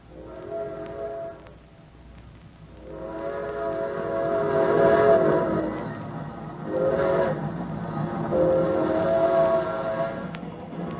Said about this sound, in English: We don't get to see a train very often. Sure looks good. Yep, just gliding along. Makes you wish you were sitting on them nice cushioned seats, now don't it?